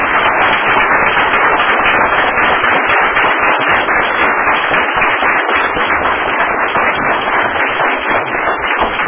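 A crowd bursts into sustained, loud applause, a dense and steady roar of many hands clapping that carries on without pause for about nine seconds, with no voices rising above it.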